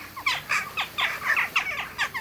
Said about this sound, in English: The catchy name Jackdaw belongs to a European bird that looks like a compact crow drawn in shades of light and dark gray. Jackdaws fly in aerobatic flocks, tumbling and swooping along the vertical faces of cliffs and buildings.